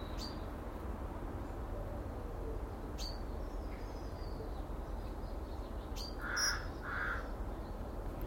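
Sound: rook cawing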